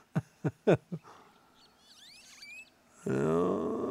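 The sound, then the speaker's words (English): A wild turkey gobbler in the woods during a spring turkey hunt gobbles in a quick burst of four loud, throaty pulses, followed by faint high chirping from songbirds before a person starts talking. “You'll hear other bird songs, but then that gobble comes up.”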